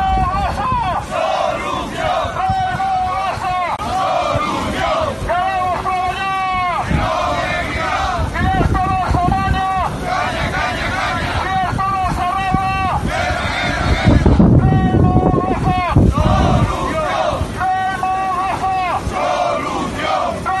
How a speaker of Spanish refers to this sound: Así sonaba una protesta que vienen realizando tres veces por semana de 7 a 8 de la mañana desde Reymogasa hasta la puerta de Alcoa. Se concentran ahí, ayudas también de bengalas, sus pancartas, en las que reivindican que se mantengan sus condiciones